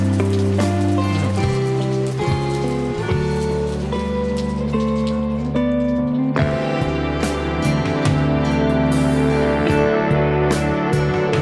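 Steady rain patters softly beneath loud, sustained music with layered instruments and held notes; the rainfall stays continuous throughout, never rising above the melody.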